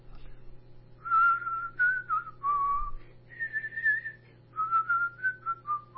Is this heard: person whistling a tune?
yes